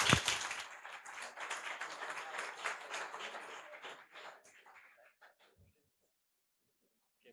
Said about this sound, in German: Viel Vergnügen! Applaus!